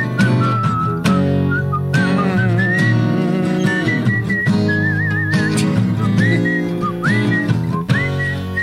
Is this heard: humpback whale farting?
no